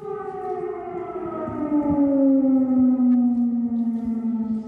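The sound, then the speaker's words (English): An air raid siren in Kiev, Ukraine, wails steadily, its loud tone slowly sliding downward in pitch over several seconds, with no voices present. “Air raid sirens have sounded in Kiev minutes before a blast was heard.”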